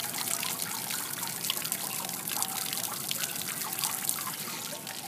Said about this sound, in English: shit, we're at the fountain.